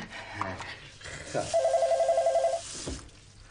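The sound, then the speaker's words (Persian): A telephone rings once with a rapid, warbling electronic trill lasting about a second, clear, set against faint household background noise. “تلفن؟ اصلا شما کاری نداشته باشید.”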